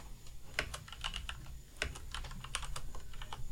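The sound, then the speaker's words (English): Rapid, irregular clicking of keys on a computer keyboard as someone types in a joke so as not to forget it, fairly quiet, with a steady low hum underneath and no voices. “What are you doing? I'm typing it in. Something so I don't forget the joke.”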